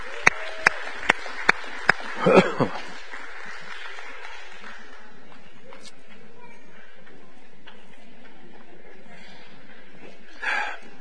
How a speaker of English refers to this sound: As they pick these up, all the kids, are the kids and youth going out? On the count of three, they're dismissed with a big round of applause.